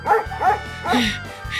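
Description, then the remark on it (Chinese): A dog chasing people on a road barks three times in quick, uneven succession, loud, with a short burst of scuffling noise after the last bark. “这条路我每天都走，这是第一次被狗追啊。”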